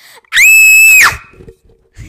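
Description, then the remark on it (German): A single loud, piercing scream into a microphone lasting under a second, high-pitched and sustained with a slight rise and fall, followed by a brief trailing sound and quiet low rumbles. “Du musst nicht ins Mikrofon schreien.”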